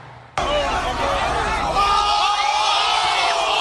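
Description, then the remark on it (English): A loud, dense crowd blocking a street roars and shouts over one another as it faces off with police in riot gear, with overlapping yells and whoops rising in a constant wall of noise that kicks in abruptly and stays intense throughout. “And right there, flashbangs, tear gas, police in riot gear faced off with that crowd blocking the street.”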